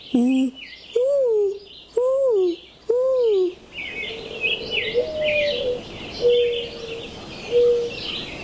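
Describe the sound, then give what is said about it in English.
A boy's voice imitates a mourning dove with four breathy, hooting coos that swoop up and down in pitch, followed by softer, steadier coos amid faint bird chirps. “I can imitate a mourning dove.”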